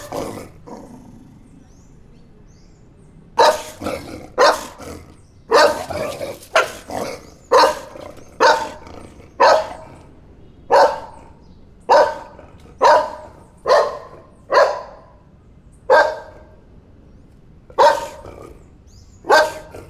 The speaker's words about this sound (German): Apropos, das Bellen wirkt jetzt eh etwas künstlich. Lassen wir den Hunden noch mal etwas mehr Raum.